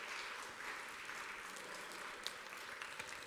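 Steady audience applause, a dense wash of many hands clapping at an even level for several seconds, with no talking over it.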